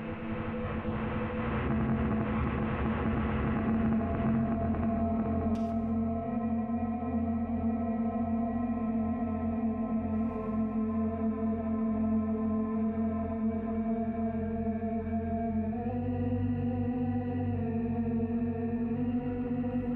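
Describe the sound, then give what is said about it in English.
A slow, looped tone made from a roughly 5-second loop, drenched in reverb, its sustained harmonic layers smearing into a wide, washy ambient drone that holds steady and loud throughout, with no voices. “May bring in some reverb here.”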